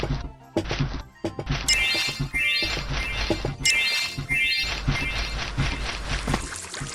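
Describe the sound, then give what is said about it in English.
Water pours steadily into a watering can in a game, its pitch climbing as the can fills, repeated a couple of times amid clunks and knocks, loud with no talking. “You fill your water.”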